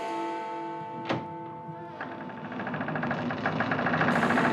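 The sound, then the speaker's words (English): A distant bell tolls once, its steady ringing overtones hanging for about two seconds, broken by a sharp thunk before a rough, rumbling mechanical noise takes over. No one speaks. “So now I guess you hear that bell tolling off there in the distance.”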